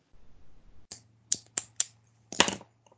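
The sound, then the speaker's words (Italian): Several sharp, irregular clacks of computer keyboard typing during a council session, with a cluster of quicker taps at the end, over a faint steady low hum. No one speaks. “Spero che sia un rumore di tastiera questo che sento”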